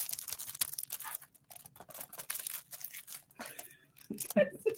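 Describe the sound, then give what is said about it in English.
Crisp paper tearing and crinkling in repeated bursts as wrapping is ripped away from Dwell, a book study on the Eucharist, with brief pauses between rips and a voice speaking near the end. “I should have taken it out of the paper, but that's fine.”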